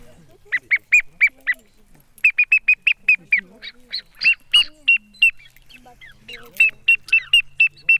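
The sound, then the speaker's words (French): A chioccolo bird-call whistle imitating a blackbird: bursts of short, shrill, evenly spaced whistled chirps, repeated in quick rhythmic runs with brief pauses, fairly loud, with faint background voices. “Proviamo a fare il merlo col chioccolo allora, così prendete il chioccolo.”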